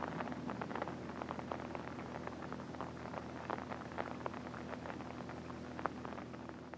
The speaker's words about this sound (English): And the rain's just on time. Now it'll rain the rest of the night.